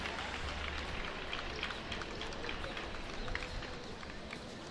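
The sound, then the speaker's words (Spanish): Steady, dense applause heard from afar, a continuous soft crackle of many hands clapping that holds an even level for several seconds without any clear speech over it. “Suposo que senten els aplaudiments, estem un poc lluny i alts.”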